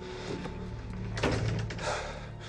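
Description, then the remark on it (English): The guest room door is pushed shut with a single dull thump partway through, set against a steady, noisy background hum. A few faint knocks and rustles come before and after it. “Now Jared enters the guest room, shuts the door, and stands with his back to a wall.”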